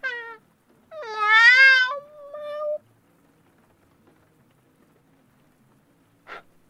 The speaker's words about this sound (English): Really? Really? Meow, meow, meow. Help me, help me, help me. Meow, bleeding kitten eyes. Begging kitten sounds. Meow, please.